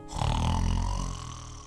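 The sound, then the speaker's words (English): A narrator's voice imitates a single loud, rumbling snore, a deep throaty rasp that swells quickly and holds for over a second before trailing off, alone. “He could hear her loud, almighty snore.”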